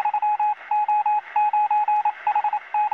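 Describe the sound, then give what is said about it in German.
A steady stream of Morse code beeps, a single keyed tone in short and long bursts over a hissing, crackly shortwave radio background with a faint constant whine, no voices, like the messages the German Wehrmacht used in World War II to direct its U-boat fleet in the Atlantic. “Während des Zweiten Weltkriegs dirigierte die deutsche Wehrmacht ihre U-Boot-Flotte im Atlantik über Kurzwelle mit Hilfe von Morsebotschaften.”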